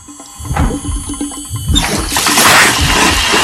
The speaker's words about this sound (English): She takes a glass and turns on the tap.